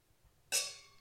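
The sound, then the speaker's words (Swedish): A single bright clink of glasses of orange natural wine touching in a toast, a sharp high ring that lingers with clear tonal overtones and slowly fades, with no voices over it. “Oklart hur det här hördes, men vi skålade på riktigt.”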